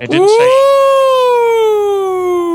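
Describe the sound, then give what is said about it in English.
A single loud siren wail, voiced by a person, sweeps up quickly and then slides slowly downward in one sustained tone, mimicking an ambulance siren. “That was totally an ambulance siren.”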